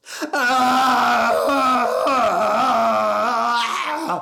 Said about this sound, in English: Screamed